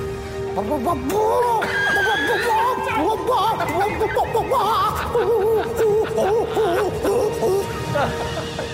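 A male's mating call, made during mating once the female is courted: a loud, continuous stream of warbling, chattering squawks and whoops that swoop up and down in pitch for about eight seconds, with no talking.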